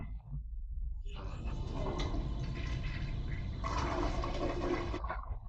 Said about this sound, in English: Suddenly, I heard someone flush the toilet.